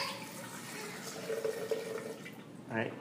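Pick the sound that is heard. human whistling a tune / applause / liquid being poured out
liquid being poured out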